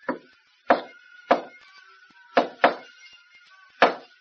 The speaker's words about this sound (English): After you have had glass tested for fingerprints, you will return to living room, knock on door this way.